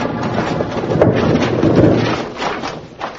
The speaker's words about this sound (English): Just as Bill, Jingles, and Betty climbed over the top of the pile of rocks, they heard a choked-off call from Matt, and a big rock slide cut them off from the rest of the mine.